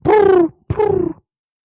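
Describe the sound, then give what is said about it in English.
A person imitates a pigeon with two low, throaty coos, each gliding slightly downward in pitch, separated by a brief pause, followed by silence. “It's a pigeon impression.”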